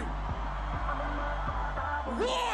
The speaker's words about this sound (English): On the count of three, I wanna hear all you scream. 1, 2, 3!